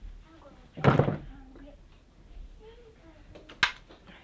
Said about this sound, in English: All right, you want me to close the door? I'll close...